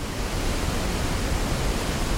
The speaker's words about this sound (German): An interessanterweise hört sich das auch praktisch gleich wie ein Wasserfall an. Also hier als Beispiel Pink Noise. Und dann zum Vergleich ein Wasserfall.